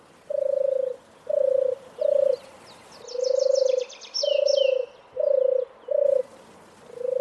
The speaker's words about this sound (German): Und die berühmte Turteltaube, die übrigens nicht in der Stadt lebt und ein Wildvogel ist, die turtelt so.